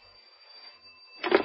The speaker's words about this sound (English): I should think it was about 5 to 8 when the phone rang in my desk.